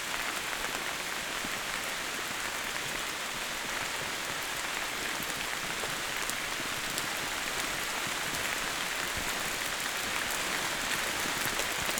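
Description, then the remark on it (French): Steady rain patters densely on leaves at night in a forest clearing, a continuous soft hiss of countless drops, unbroken for the whole stretch with no voices. “Le clapotis de la pluie.”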